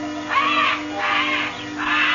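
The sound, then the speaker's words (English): Disturbed birds in a huge aviary at one corner of old man Kelso's house squawk in three harsh, raspy bursts, loud, repeating at a steady pace with brief gaps between them and no voices present. “Something had disturbed the birds.”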